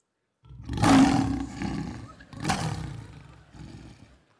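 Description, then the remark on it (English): A lion roars loudly in two deep, powerful bursts, each trailing off into rumbling growls, forceful with no talking over it. “He utilizes his roar. Did you know a lion's roar is so loud, it's so powerful, it can be heard up to 5 miles away?”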